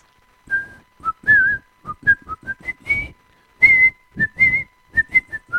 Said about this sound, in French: C'était son dernier sifflement, on dirait.